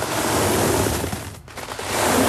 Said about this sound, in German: Ja, ganz viele Münzen. So ein bisschen wie bei Dagobert Duck im Geldkeller, im Geldspeicher. Nur eben, dass das jetzt hier für einen guten Zweck ist. Das sind die Taler der Jupiter-Apotheken.